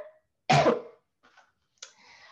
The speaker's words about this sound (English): excuse me, sorry, I need to clear my throat here.